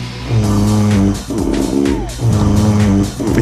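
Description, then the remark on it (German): Loud, rumbling snores repeat in a steady beat, each one a long, buzzy, low-pitched drone with a short gap before the next. No one talks over them. “Wie du im Takt schnarchst.”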